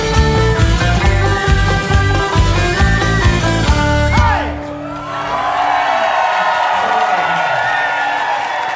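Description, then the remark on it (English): A live band finishes a loud, driving song with a final sliding note, then a pub crowd at the Blarney Stone breaks into sustained cheering, whooping and shouting that carries on to the end. “Whipping up the crowd at the infamous Blarney Stone”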